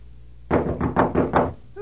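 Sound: knocking on a door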